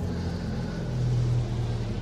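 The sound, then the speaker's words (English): A Mercedes car with white plates has its engine started and running with a low, steady rumble and a faint tonal hum, fairly constant in level, with no voices. “He starts the engine.”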